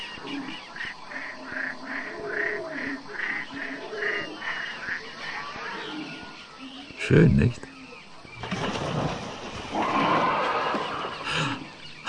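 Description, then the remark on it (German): Night-time wild animal sounds of the African night: a run of repeated, rising howls of hyenas, then a sudden low roar of lions and a rougher stretch of calls, with a person briefly speaking over them. “Da hört man diese herrlich unheimlichen Geräusche der afrikanischen Nacht so schön. Hyänen heulen, Löwen brüllen.”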